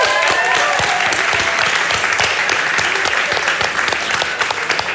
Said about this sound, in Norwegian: Gi en stor applaus til Alexandra!